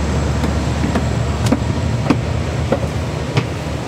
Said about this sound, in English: we just got onto a fancier train with higher head rests and two stories and a bathroom.